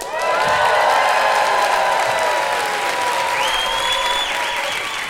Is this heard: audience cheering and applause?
yes